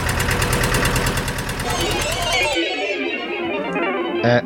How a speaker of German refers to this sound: Klasse! Der Trecker läuft wieder!